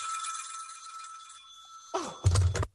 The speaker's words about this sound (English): I mean, and meanwhile, I've got to sit here in my bed, suffering every time that phone rings, imagining everything.